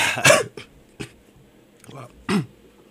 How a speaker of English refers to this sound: Wow, that was a strange little laugh. It mixed in with my cough for some reason.